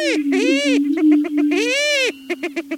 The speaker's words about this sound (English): Greater prairie chickens whoop in loud courtship displays.